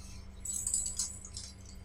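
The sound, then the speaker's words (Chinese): A soft, brief metallic jingle of keys, a couple of light clinking shakes over a low steady hum, with no talking. “钥匙，上海话叫啥？”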